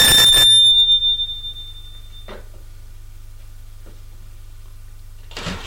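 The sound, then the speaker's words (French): A doorbell at a front door rings once with a bright electronic tone that lingers and fades, followed by a low steady hum, a faint click, and a brief rustle at the end. “Sonne à une porte.”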